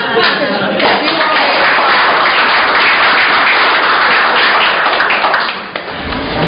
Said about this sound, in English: And I'd like applause, I'd like drum rolls.